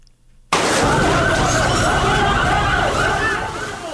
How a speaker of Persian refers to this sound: صدای موتری آتش فشانی است که برای مهار آتش سوزی به محل این رویداد آمده است. صبح امروز در نتیجه انفجار بخاری گازی در شفخانه کووید 19 ولایت غور، بخش های اداری این شفخانه به خاکستر تبدیل شده است.